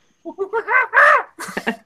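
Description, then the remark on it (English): A person imitates monkey calls with a quick run of rising hoots climbing to a loud shriek, then a few sharper chattering yelps, energetic. “It's animal noises. No, I'm not a monkey. Do a monkey!”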